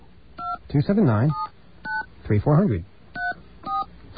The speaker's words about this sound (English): To obtain account information from our 24-hour information system, enter your account number and press the pound button. Okay, we're going to enter our phone number.